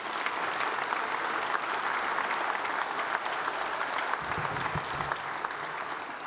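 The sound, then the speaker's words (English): A crowd claps steadily for several seconds, applauding a 93-year-old man who broke a world record for water skiing, a dense, continuous wash of applause that holds at a fairly even level throughout, with a few faint voices mixed in near the end. “Big round of applause.”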